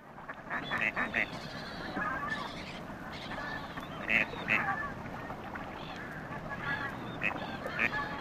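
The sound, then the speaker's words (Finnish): Gadwall ducks call repeatedly at the Suomenoja basin, a former sea bay between Kirkkonummi and Helsinki in Finland: a series of short nasal quacks and croaks over a steady wetland background hiss, with a louder cluster of calls near the middle. “Harmaa sorsa on rehevien vesien vaatelias asukas ja Suomessa harvinainen.”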